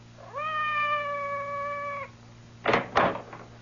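A cat outside a door gives one long, drawn-out meow that holds steady for nearly two seconds, followed by two quick sharp thuds, like knocks on a door. No one speaks.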